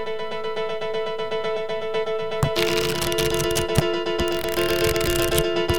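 Book pages turning: after a couple of seconds, papery rustling starts with several crisp crackles and flicks. A steady humming tone runs underneath throughout.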